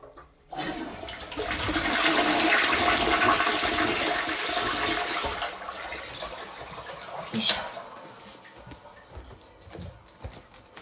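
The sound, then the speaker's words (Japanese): A toilet flushes with a loud rushing whoosh of water that swells, holds for several seconds, then drains away into a quieter gurgling trickle, with a brief knock partway through. “じゃあちょっと流しますね。うるさくなります。”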